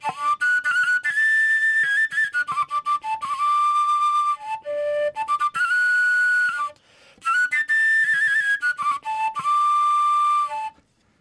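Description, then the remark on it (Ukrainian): A Carpathian shepherd's fipple overtone flute from Ukraine, a whistle-mouthpiece instrument whose notes rise the harder it is blown, plays a lively, breathy melody with bright shifting high notes in long unbroken phrases and one short pause midway. No one speaks. “Ну, а свистком придумали це так для лінивих музикантів, таких як я. То вже воно легше грати, і звук більш такий приємніший.”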